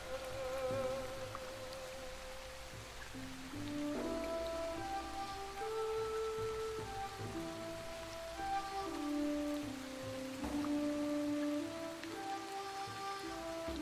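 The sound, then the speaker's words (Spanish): Steady rain falls continuously with a constant hiss, while soft sustained melodic tones drift beneath it. No one speaks. “Está tardando demasiado y la lluvia no cesa.”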